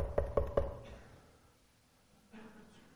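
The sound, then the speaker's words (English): Three quick, firm knocks on a door, evenly spaced, followed by near silence with only a faint low rumble afterward. “What are you going to do if you're followers of the way of Jesus and somebody knocks on your door in the middle of the night?”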